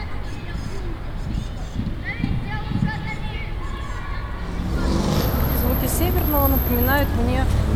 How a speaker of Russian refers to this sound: Столица на самом деле, потому что очень много машин проезжают.